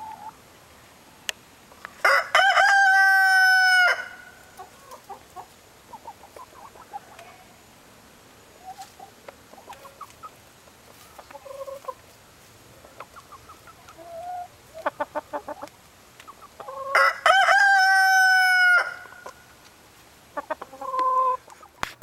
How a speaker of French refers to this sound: Là où le coq fermier se contente de tendre le cou pour chanter à gorge déployée.